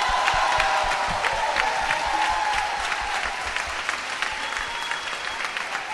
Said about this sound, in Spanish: Voy a ir nombrando a mis amigas que están esta tarde, noche aquí, una por una, las vamos a ir aplaudiendo.